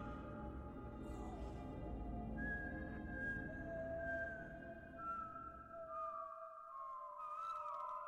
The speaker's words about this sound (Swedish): Men det märkte de inte på grund av det skrämmande visslande ljudet som de hörde i sina huvuden.